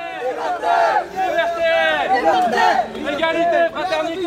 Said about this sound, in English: That's what we hear now. Most of the people surrounded are refugees, but they are helped with activists who are yelling at the police.